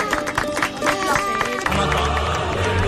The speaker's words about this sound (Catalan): Fora aplaudiment per aquesta senyora, per favor!